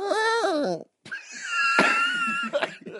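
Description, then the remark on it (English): Someone vocally imitates a horse farting: a wavering, nasal whinny-like tone, a brief gap, then a longer buzzy, spluttering rasp with sharp bursts, fairly loud throughout. “You did a horse farting? Yeah. Do it again.”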